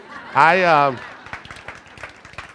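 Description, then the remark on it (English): An audience reacts to news of a sixth baby on the way: a short, loud cheering voice rises and falls, then gives way to a scattered round of clapping, sharp uneven claps of moderate loudness continuing for a couple of seconds. “I remember when she told me in May, yeah, you can clap.”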